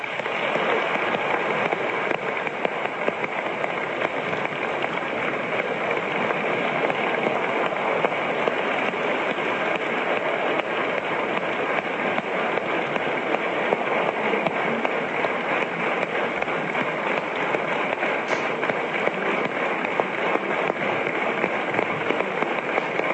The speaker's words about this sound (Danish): Og jeg vil gerne starte med at sige tak til begge kandidaterne for at stille sig til rådighed for SF. Jeg synes, vi skal klappe dem herinde i salen.